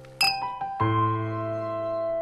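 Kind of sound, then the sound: household object, drinking glasses clinking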